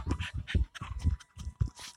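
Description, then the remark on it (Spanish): A dog pants rapidly right up against the microphone, quick rhythmic breathy huffs with wet mouth sounds, loud and intimate with no one talking. “No sé cómo se va a escuchar esto después cuando suba la grabación, pero el perro quiere hacer ASMRS.”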